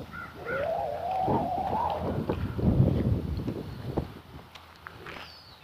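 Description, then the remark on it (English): A hawk's thin squeaking call, drawn out and wavering, rises over steady wind rumble outdoors at a back gate, followed later by a brief, faint, high squeal. “I think that's the hawk.”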